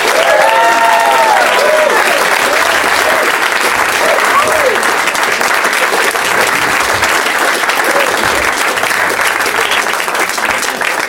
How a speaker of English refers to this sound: Did anyone stand up? No, but they clapped hard.